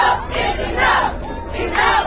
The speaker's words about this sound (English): The sounds of the crowd that took part in last night's rally in Sanford, Florida for Trayvon Martin. The crowd demanding the immediate arrest of the neighborhood watch volunteer who shot and killed the teenager back in February.